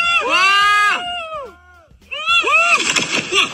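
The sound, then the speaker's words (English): A big crowd in Thailand watching a man bungee jump from a 100-foot platform cheers and yells loudly, falls briefly quiet, then erupts again into frantic, overlapping, intense screams as the cord breaks and he falls into a lake. “This happened in Thailand, and you hear the crowd cheering him on.”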